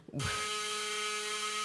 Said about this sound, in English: That's the lunch bell. Open the door, you can see for yourself.